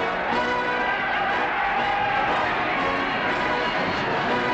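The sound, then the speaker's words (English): A dense, steady roar of a large crowd cheering as the aircraft Victory comes in to land in fog, many voices blending into one continuous wash of cheering that holds at a constant, fairly loud level throughout. “Just listen to that crowd roar!”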